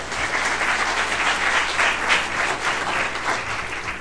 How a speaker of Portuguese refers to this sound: Agora palmas para o nosso tio